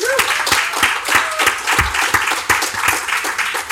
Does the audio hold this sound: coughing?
no